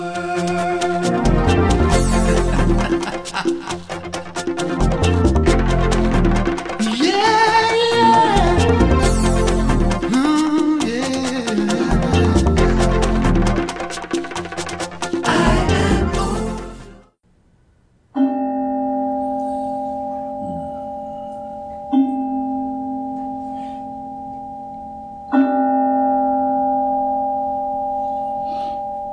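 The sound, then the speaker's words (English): A gentle bell rings three times after a stretch of busy music during a Sunday Celebration Service at the Center for Spiritual Living in Huntsville, Alabama, each soft strike leaving a steady, pure tone that hums and sustains until the next one. “Gentle sound of the bell.”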